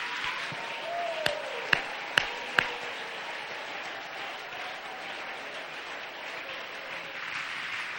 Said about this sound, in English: Let's be witnesses. Clap your hands right now. I feel faith.